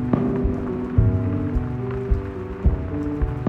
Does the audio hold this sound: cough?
no